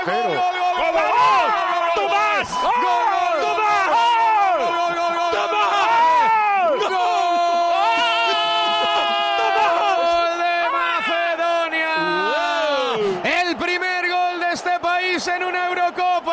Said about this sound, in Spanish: Oye, si en Macedonia escuchan cómo habéis gritado el gol y cómo habéis cantado el gol de Macedonia, no hay ni en la radio pública de allí una manifestación de alegría igual.